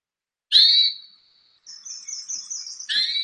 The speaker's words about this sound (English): And I'm just going to play another call that you might often hear a hermit thrush giving.